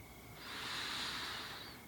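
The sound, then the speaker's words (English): A single slow, deep breath drawn in, an airy hiss that swells gradually for over a second before easing off. No one speaks. “Another deep breath in and out.”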